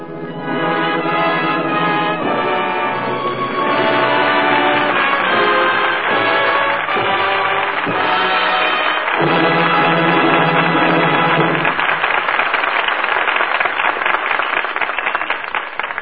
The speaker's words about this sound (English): That applause is a seal of approval on tonight's play, and the fine performances of the four players who return now to this microphone.